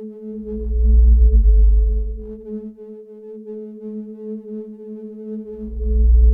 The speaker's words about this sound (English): And I started very primitively to synthesize individual sound by superimposing sine waves. In harmonic spectrum, in order to make a, o, u, o, a, e, e, a.